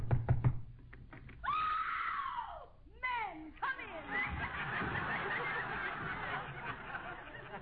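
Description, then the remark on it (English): A quick series of sharp knocks on the door of a house, then loud honking, squawking cries and a burst of noisy chatter take over. “Go ahead and knock.”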